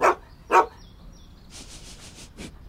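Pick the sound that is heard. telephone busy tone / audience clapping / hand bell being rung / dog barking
dog barking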